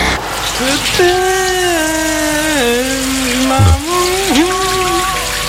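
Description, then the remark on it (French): Steady hiss of a shower running in the morning, with a man singing a wavering melody of a song over the spray throughout. “Du coup, je suis sous la douche ce matin.”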